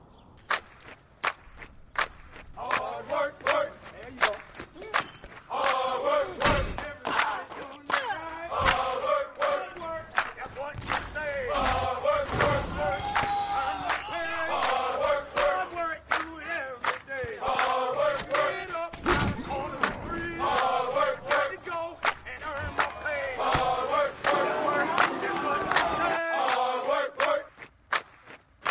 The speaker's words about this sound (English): Everybody's got their gear on. People are chanting and cheering on the train before you even get to the station. There's a sense of camaraderie because Philly loves their sports teams.